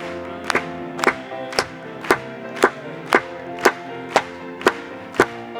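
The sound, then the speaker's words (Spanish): A group claps together in steady unison to applaud God, roughly ten sharp claps about half a second apart, over sustained keyboard or organ chords. No one is speaking. “Vamos a aplaudirle.”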